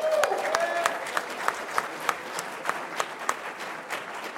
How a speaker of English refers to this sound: I'm so happy for both of you, and please welcome with a round of applause Andre Gower and Ryan Lambert.